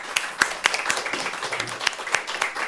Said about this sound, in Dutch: Dus ik wil jullie heel hartelijk bedanken. Fantastisch jullie verhaal. De 4 experts van vandaag, geef ze een heel groot applaus.